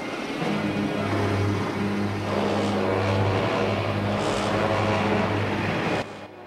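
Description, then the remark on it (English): A heavy Mack truck engine roars, a loud low harmonic rumble that revs and strains steadily as the truck pulls away, leaving its trailer behind, then cuts off abruptly near the end. “pulls away in the truck, leaving the trailer and the captain behind.”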